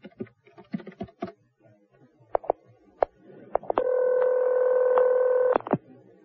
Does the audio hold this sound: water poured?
no